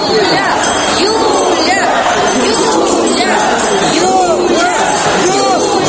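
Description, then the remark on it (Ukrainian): A large crowd gathered outside the Pechersk District Court in Kyiv, Ukraine, where the preliminary hearing of the gas case against Yulia Tymoshenko began: a loud, unbroken wash of many overlapping voices, with individual calls and raised exclamations rising briefly above the steady hubbub throughout. “Біля Печерського районного суду Києва, де сьогодні почався попередній розгляд так званої газової справи, за якою Тимошенко звинувачують у незаконному підписанні 2009 року контрактів на постачання російського газу до України, зібрався великий натовп.”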